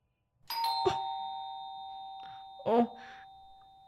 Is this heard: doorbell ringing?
yes